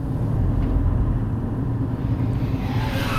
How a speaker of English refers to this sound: Yeah, we are inside of a tunnel now. So things are gonna echo.